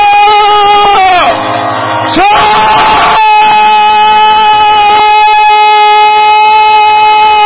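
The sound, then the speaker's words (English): A loud, sustained roar of many voices as an audience in a hall shouts praise to the Lord, over steady held musical tones that continue throughout, with a brief dip before the shouting swells again. “I want everyone in this hall to shout.”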